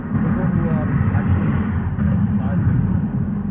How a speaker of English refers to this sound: Okay, I'm having a hard time hearing you because of the traffic.